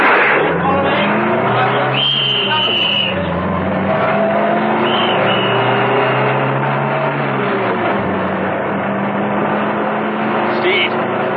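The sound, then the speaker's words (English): A heavy armored car's engine roars loudly and steadily, its pitch rising and shifting as it starts up, revs and pulls away, with a brief high squeal cutting in near the start. “Steed started her up, and they roared off.”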